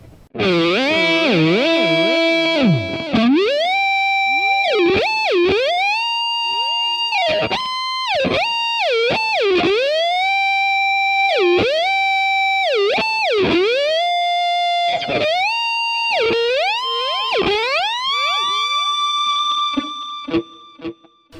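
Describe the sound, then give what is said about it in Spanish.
Loud, distorted electric guitar through a rack simulating a Marshall JCM 2000 amp with impulse responses, a little delay and reverb, its notes repeatedly swooping up and down in pitch with a whammy effect, playing continuously for about twenty seconds with no talking. “Este caso tiene el whammy sobre una simulación de un Marshall JCM 2000 con impulso de respuestas, con un poco de delay, reverb y el Wami.”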